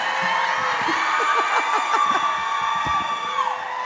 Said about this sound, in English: I love the screaming.